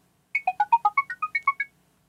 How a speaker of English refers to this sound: click the small megaphone-shaped button that will now be on your Chrome toolbar, and your computer will play a series of beeps like mine did.